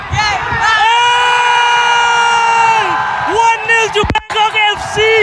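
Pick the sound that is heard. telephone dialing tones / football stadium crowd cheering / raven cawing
football stadium crowd cheering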